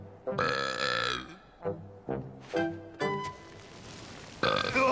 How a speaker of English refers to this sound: Excuse me. You burped. Can't help it. Excuse me. I've had too much, natural gas.